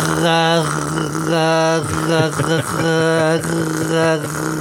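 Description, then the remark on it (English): A voice imitates an over-revved two-stroke chainsaw with loud, buzzy, nasal revving in about four sustained bursts, the pitch climbing and dipping between them, with no other sound. “I like it when the chainsaw's being over-revved a little bit, so it goes...”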